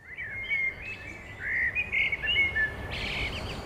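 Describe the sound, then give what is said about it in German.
A person imitates a bird call with a quick series of high, whistled chirps and trills, fairly close and clear, with no talking over it. “Und das war auf Vogel und das war auf Mensch.”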